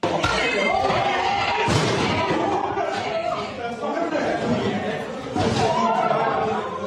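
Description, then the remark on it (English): In a courtroom, many raised, overlapping voices in chaotic commotion, with a few loud, forceful thuds and crashes as a father throws a chair at the judge. “So the father throws a chair at the judge and starts flipping out.”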